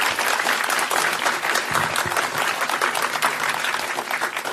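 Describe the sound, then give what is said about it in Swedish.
An audience claps steadily throughout to welcome the evening's panel, a dense, even wash of many hands that stays loud from start to finish with no voices on top. “Ge en varm applåd till Dilan och Apek.”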